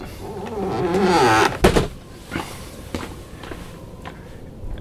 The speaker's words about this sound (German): Mach die Tür zu.